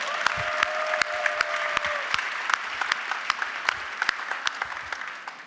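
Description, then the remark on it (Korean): Audience applause fills the whole clip, a dense patter of many hands clapping with sharp, irregular claps popping out, steady in loudness throughout. A brief faint tone sounds early on. “그런 의미에서 박수 한번 더 쳐주면 되는 거지.”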